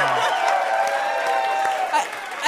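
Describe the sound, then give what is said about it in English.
A live show audience bursts into sustained applause with scattered cheers and whoops, a dense wash of clapping that stays loud and steady throughout. “I've never gotten so much applause for doing so little.”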